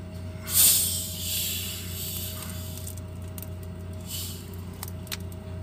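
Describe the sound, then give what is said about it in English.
A sharp burst of hiss gives way to a steady, soft fizzing as tonic water is poured, with scattered tiny crackles over a low background hum and no talking. “Some tonic water.”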